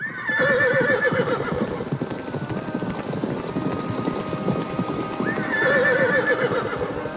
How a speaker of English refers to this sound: The sound of hooves and neighs echoed in the desert.